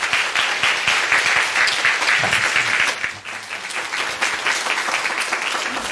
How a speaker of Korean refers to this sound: 말씀 전할 때마다 감동 있는 능력의 말씀으로 전해 주십니다. 나오실 때 뜨거운 박수로 격려 부탁합니다.